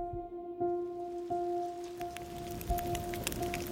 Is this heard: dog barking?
no